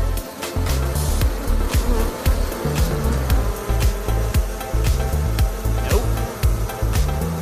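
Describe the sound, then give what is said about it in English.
A dense swarm of bees buzzing loudly at a family's home, a continuous droning hum with frequent sharp, crackling ticks and bumps as insects move and strike surfaces. No one speaks. “The family who lived here wanted to save the bees, so they called me.”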